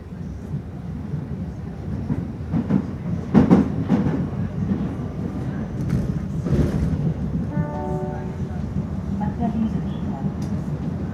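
A subway train rumbles steadily along the rails, a loud, continuous low roar with rattling clacks and a brief tonal whine of the motor or brakes near the end.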